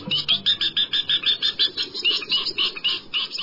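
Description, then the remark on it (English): A rapid series of loud, harsh chattering calls of a northern jacana repeats steadily, about four notes per second, over a faint background rumble; no one speaks. “The northern jacana, found in Mexico, Central and South America, and Cuba.”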